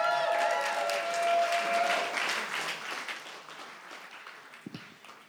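An audience bursts into applause, dense steady clapping with a few whistles or cheers at the start, then slowly thinning and fading toward the end.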